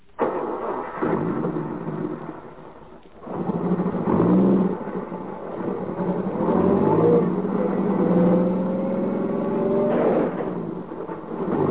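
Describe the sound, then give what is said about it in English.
A car engine turns over and revs hard, the pitch rising and falling through several loud surges as the car strains in reverse, backing up along a road towards a man lying on it. No talking. “Back up over him. You've got to.”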